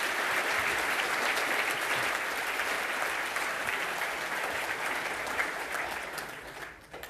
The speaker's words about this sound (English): So I want to hear a really loud and warm applause